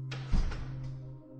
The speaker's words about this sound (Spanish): La puerta del zombi se cierra.